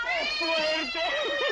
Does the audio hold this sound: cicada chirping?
no